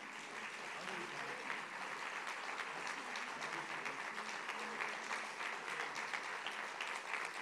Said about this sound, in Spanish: Pues un aplauso para él.